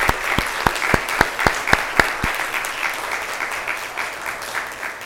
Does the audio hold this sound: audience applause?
yes